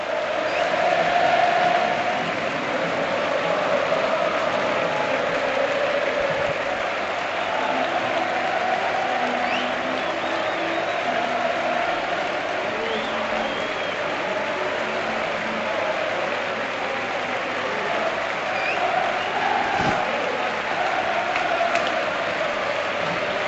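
A large stadium crowd, on its feet, applauds steadily and loudly throughout, with a sustained roar and faint sung chanting woven into the dense wash of clapping, as the Villarreal footballers come up to the stands to do a lap.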